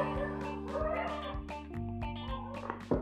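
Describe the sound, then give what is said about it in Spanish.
Dogs bark in a quick, irregular series of sharp yelps and barks, some higher and whinier, over a steady low hum, with no talking. “Ya los perros ladran cada 10 segundos, tiene programado.”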